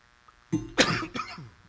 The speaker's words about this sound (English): I'm going to cough for a while.